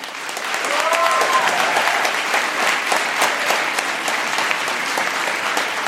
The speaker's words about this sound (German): Also, jetzt erstmal euer Applaus für Tim Trenners Frage zur Zombie-Apokalypse.